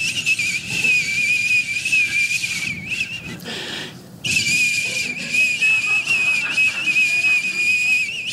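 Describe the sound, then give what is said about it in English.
A steady, high-pitched whistling tone sounds loudly and continuously somewhere inside a house at 3 a.m., with a soft hiss beneath it; it drops out briefly around the middle before resuming just as strongly. No one speaks. “A couple of weeks ago, it's 3 o'clock in the morning at my house, and I hear this whistling coming from somewhere in the house.”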